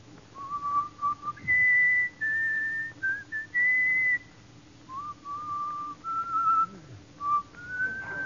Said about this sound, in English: do you know how to whistle? Sure. Let me hear your whistle coming through the rye.